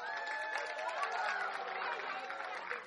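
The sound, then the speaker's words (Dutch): A crowd applauds with steady, loud, dense clapping that holds for several seconds, with voices cheering and calling out over it. “Applaus.”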